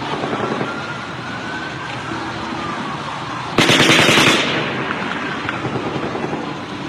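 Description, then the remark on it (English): Automatic machine-gun fire rattles in rapid, steady bursts across a noisy outdoor backdrop, with one sharper, louder burst about halfway through before it settles back to a more distant chatter. “It sounds like automatic gunfire.”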